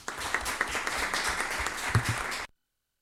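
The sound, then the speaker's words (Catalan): Attendees of a town council meeting applauding together to welcome a new councillor, a dense steady patter of many hands clapping for a couple of seconds before it cuts off abruptly. “Un aplaudiment, sisplau.”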